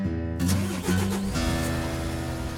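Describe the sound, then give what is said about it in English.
A school bus full of birders drives down a bumpy dirt road at 6 a.m. at a mountain plover festival; its engine drones steadily, with rattling and shifting low hums as it rolls along, with no voices present. “and I'm in a school bus full of birders. We're headed down a bumpy dirt road, hoping to find some plovers today.”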